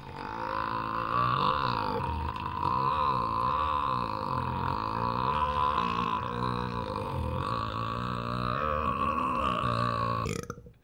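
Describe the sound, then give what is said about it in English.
A single, extremely long and loud burp after drinking soda rumbles on unbroken for about ten seconds, its gravelly pitch wavering up and down before it cuts off abruptly. No talking. “That was the first thing I thought of, and I thought, my goodness, I've never, ever burped like that before.”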